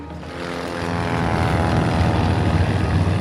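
A small propeller plane's engine drones loudly, its buzzing, harmonic roar swelling over the first second and then holding steady throughout, as the plane takes passengers to view the Great Barrier Reef from the air.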